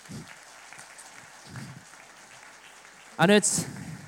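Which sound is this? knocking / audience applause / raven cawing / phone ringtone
audience applause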